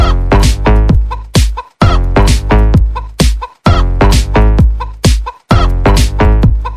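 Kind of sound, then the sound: bird, chicken clucking sound effect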